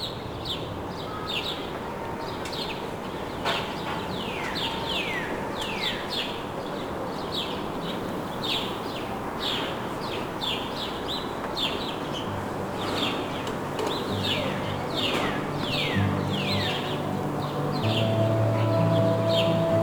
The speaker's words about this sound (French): et des myriades d'oiseaux. Le bruissement du feuillage.